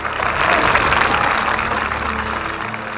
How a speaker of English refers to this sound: The crowd reacted for the first time at this line, clapping its approval.